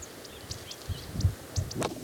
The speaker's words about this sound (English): There's a bridal titmouse and some other birds.